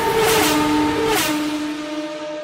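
A car engine revs loudly, its droning pitch stepping down in stages over a couple of seconds with two brief roaring surges, no voices present.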